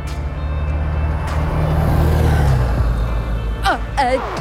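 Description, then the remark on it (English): A bus rumbles past with a loud, deep engine drone that holds steady, then drops away, followed by a few short, high-pitched squeals over steady traffic noise. “That was my bus.”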